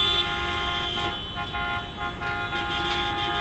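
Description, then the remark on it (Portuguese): Truckers, motorcyclists and cyclists blare their horns together in a Tuesday-morning protest through the city centre of Maringá, Brazil: a steady, sustained chorus of honking, loud and continuous over a rumbling street background, with no voices heard. “Logo pela manhã, nesta terça-feira, grupos de caminhoneiros, motociclistas e ciclistas, por conta própria, começaram um buzinaço pelo centro da cidade.”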